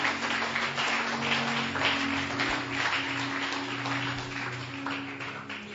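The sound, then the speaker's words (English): A crowd claps together in a dense, steady wash of applause lasting several seconds, fairly loud and even throughout, with a low sustained hum beneath it and no one speaking. “Clap your two hands.”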